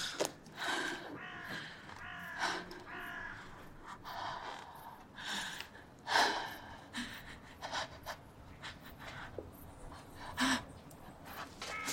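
A person coughs repeatedly in harsh, ragged bursts mixed with gasping breaths, irregular, with no talking, while opening their eyes in the corner of a hall.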